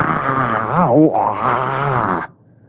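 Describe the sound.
A person's voice lets out a long, loud, throaty roar imitating a lion, pictured as Aslan, for the Bible verse 'The Lord shall also roar out of Zion', dipping and swelling in pitch for about two seconds before cutting off abruptly into near silence.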